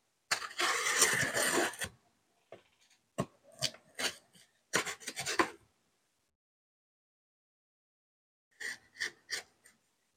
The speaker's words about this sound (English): It's rattly. It sounds like Hot Wheels. There it is.